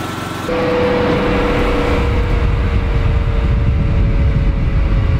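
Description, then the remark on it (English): The jet engine from an original fighter jet, being spun up and started, catches after a brief low hum and quickly settles into a loud, steady roar with a sustained mid-pitched whine running through it. No voices are heard. “Nick's just gonna spin it up and start it just so we can hear how it sounds”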